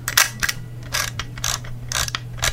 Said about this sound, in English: A manual advanced camera. Or that is an Olympus camera.